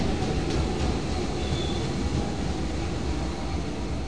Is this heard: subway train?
yes